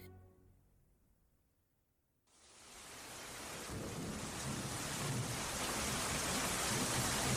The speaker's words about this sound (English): Oh no, it's raining. Come on, we'll get soaked if we don't run.